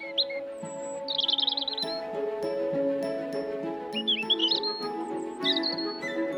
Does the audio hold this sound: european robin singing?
yes